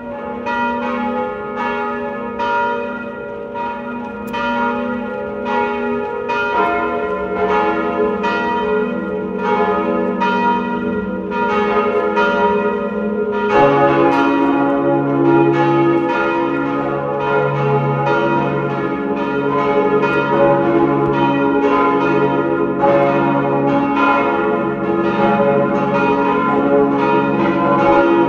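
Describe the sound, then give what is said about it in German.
Several bells of the parish and pilgrimage church on the Sonntagberg in Lower Austria peal together at noon in a full, continuous ringing, their overlapping strokes forming a dense, resonant wash that swells slightly partway through. No voices are heard. “Sie hören die Glocken der Pfarr- und Wallfahrtskirche Sonntagberg in Niederösterreich.”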